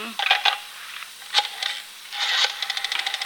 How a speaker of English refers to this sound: Oh, there's the doorbell. Yeah, I'll go.